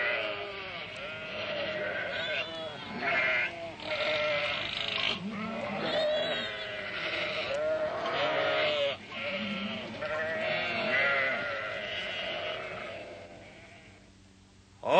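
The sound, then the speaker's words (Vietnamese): A herd of goats being taken away bleats continuously, many overlapping wavering cries, loud and dense for the whole stretch with no break in the chorus. “Các người bắt đàn dê này đem đi đâu vậy?”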